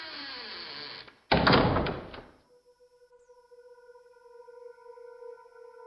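A house door scrapes briefly, then shuts with a loud, heavy thud as a man shuffles slowly out of the house and the doors are sealed behind him, followed by a steady faint electronic hum with a few quiet tones. No one speaks.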